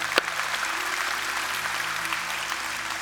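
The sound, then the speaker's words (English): A crowd applauds steadily, a dense wash of many hands clapping at an even, sustained level throughout, with one sharper clap standing out right at the start. “And we all, by the way, you know why people are clapping? Because they want it for you.”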